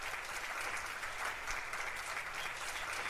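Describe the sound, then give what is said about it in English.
Sustained applause from an audience at a Bible study, welcoming a woman speaker, fills the whole stretch, a dense, steady clatter of many hands clapping at once with no pauses or voices breaking through. “Un applaudissement pour notre bien-aimée sœur Marie Luisa.”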